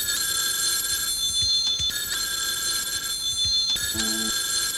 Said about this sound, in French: Le téléphone sonna plusieurs fois.